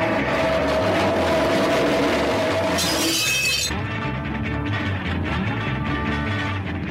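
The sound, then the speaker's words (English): A harsh, continuous metallic scraping of a metal folding chair dragged along the concrete floor of a recording studio, then a bright burst of glass shattering as the chair breaks a glass, all buried in a loud, dense wall of noise with no voices. “drags a metal folding chair along the concrete floor of the recording studio and then breaks a glass with it.”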